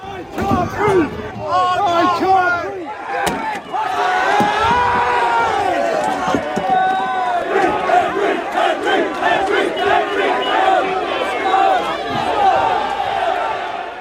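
A large, agitated crowd of protesters shouts and roars continuously as they clash with riot police in the St. Denis area, with overlapping yells and a sharp bang or impact early on, as chairs, cans and flares are thrown at officers in riot gear.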